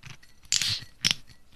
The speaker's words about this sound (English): That's the ruby grapefruit being opened. Okay, that's the grapefruit.